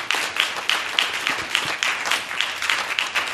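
A room full of people applauds a guest for joining them, dense overlapping claps forming a steady, bright wash of sound that holds at even loudness for a few seconds, with no talking.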